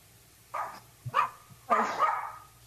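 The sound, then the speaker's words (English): A dog barks three times in quick succession during a commission meeting, the last bark longer and drawn out, sounding muffled, with a faint low hum underneath. “Okay, my dog just decided to bark.”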